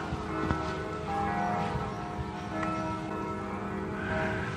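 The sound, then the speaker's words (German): The church bells of Mülheim ringing in town, a steady overlapping peal with sustained tones hanging in the air, accompanied by faint outdoor ambience and no voices. “Die Glocken. Hört ihr sie? Die Glocken von Mülheim.”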